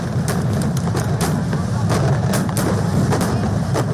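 Fireworks set off across India for the Diwali festival bang and crackle in a rapid, irregular string of sharp bursts, layered over a steady low rumble and murmuring background noise.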